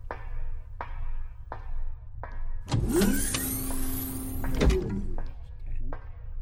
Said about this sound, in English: I'm opening the storage ramp now.